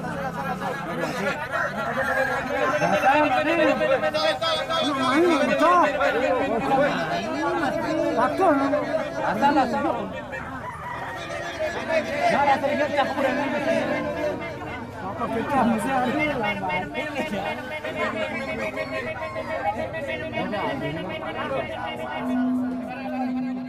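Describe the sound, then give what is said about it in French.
A dense crowd at a midday cockfight in Bali, Indonesia, chatters and shouts continuously, many overlapping voices swelling and dipping in loud waves, with a steady held tone rising out of the babble near the end. “Un souvenir sonore d'Indonésie, le combat des coqs des midi à Bali”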